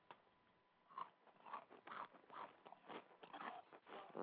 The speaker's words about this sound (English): Why is it that everything you eat? Munch in the face, ass nigga? Huh? You crunch and munch in the face, ass nigga?